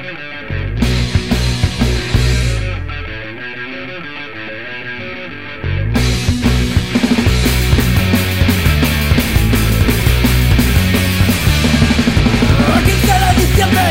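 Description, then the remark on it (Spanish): Loud, distorted rock band blasting away with dense guitars and pounding drums, a brief thinner stretch before the full band crashes back in; raw, unpolished demo tape recording from around mid-1994 with no clear vocals. “I aquí no s'estaven pas per grans virtuosismes ni grans estilismes, sinó que anaven a rebentar.”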